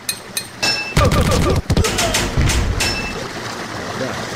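Video game gunfire from a gun fired at a thug by pressing the Control key: a handful of sharp, bright shot bursts at irregular intervals over a steady, noisy electronic background, some closely spaced, one after another.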